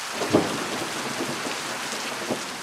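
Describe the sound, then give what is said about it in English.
Heavy rain pours down in a steady, dense hiss during the rainy season in Malawi, southern Africa, with a couple of brief low thumps rising out of the constant downpour. “Long, heavy downpours are turning dirt roads into impassable quagmires.”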